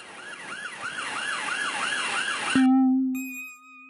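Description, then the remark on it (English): A police siren wails in quick rising-and-falling sweeps, about six cycles, then cuts off abruptly and gives way to a steady, low sustained tone with no voices. “Sometimes I hear a police siren. It sounds like an old woman shouting, "Clever, clever, clever," slowly fading into the hills.”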